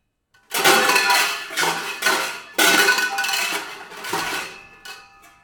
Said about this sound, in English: Stainless steel sauce pots.